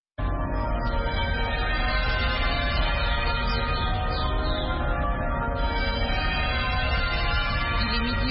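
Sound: cathedral bells ringing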